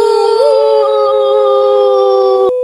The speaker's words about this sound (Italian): L'indovinello di oggi è l'elefante.